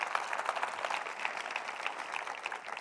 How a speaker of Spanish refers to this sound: Si usted es uno de ellos, déle un aplauso a él, aleluya.